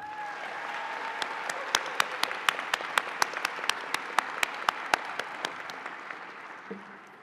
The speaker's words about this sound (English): I want you to take a moment to thank and applaud those people in the audience who made this day possible for you.